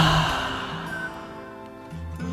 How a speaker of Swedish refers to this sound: Så oavsett vart du är nu så vill jag att du sluter dina ögon och tar 5 djupa andetag. 5 djupa andetag där du andas in djupt genom näsan. Andas ut genom munnen och säg ha. 5 sådana. Andas in. Ut genom munnen. Ha.